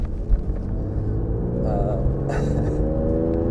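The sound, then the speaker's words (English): A car drives steadily, its engine giving a loud, continuous low rumble and hum that rises slightly in pitch partway through, with faint higher noises over it. “It's good to get out in this car again.”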